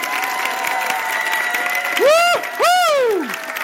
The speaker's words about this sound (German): So ein 7-, 6-, 8-Punkte-Applaus hier in Leipzig. Das steigern wir auf Stufe 8, auf Stufe 9 und ein Leipziger Lesekompass-Applaus auf Stufe 10.